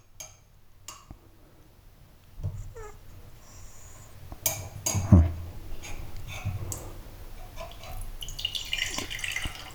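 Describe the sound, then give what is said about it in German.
Chamomile tea is poured into a cup in a few short splashing bursts, swelling to a louder trickle midway before tapering off, with scattered light clicks and no talking. “Gießen wir mal ein. Ganz vorsichtig.”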